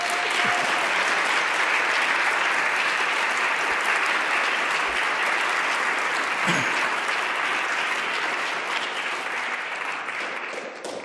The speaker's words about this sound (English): another big round of applause.